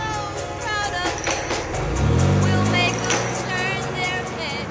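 A yellow Ford Thunderbird drives along, its low engine hum climbing in pitch as it accelerates midway, over steady road noise with indistinct voices or sounds layered on top.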